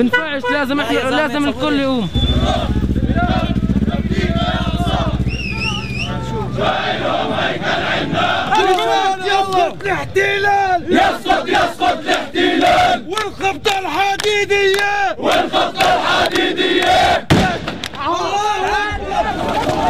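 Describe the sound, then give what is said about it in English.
A large crowd in Jerusalem shouts and yells loudly and continuously as it disperses under Israeli fire, many voices overlapping in rising cries, with a deep rumbling roar underneath early on and sharp bursts of noise scattered throughout. “Under Israeli fire, the crowd quickly dispersed.”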